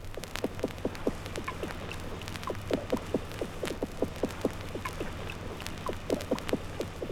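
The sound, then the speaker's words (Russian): Single drumming calls of Azov drum fish recorded underwater in calm weather: short, dull knocks sounding one after another at an uneven pace, fairly faint, over a steady low underwater hum. “Теперь слышны лишь одиночные сигналы азовских барабанщиков.”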